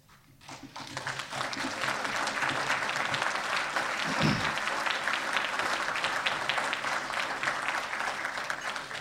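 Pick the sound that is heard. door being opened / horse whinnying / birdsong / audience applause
audience applause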